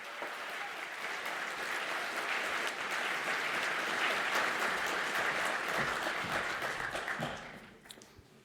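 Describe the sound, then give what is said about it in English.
A large audience at a Congress applauds the event's volunteer angels steadily, a dense wash of many hands clapping at once that holds for several seconds, then thins out and fades as the clapping dies down near the end. “Thank you for making this event possible, and this is your applause.”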